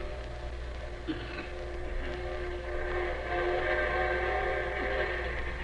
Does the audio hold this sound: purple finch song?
no